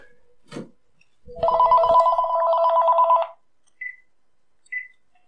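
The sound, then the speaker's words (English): A telephone rings in one sustained, trilling burst lasting about two seconds, loud, followed by a couple of short electronic beeps. No one speaks. “Phone rings.”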